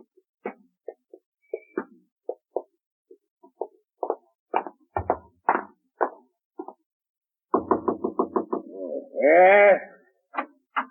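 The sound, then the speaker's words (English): Knocking at the front door, scattered single raps at first, then a quick run of loud knocks, followed by a brief wavering, moan-like cry before a few last taps. “Did I hear someone at the front door?”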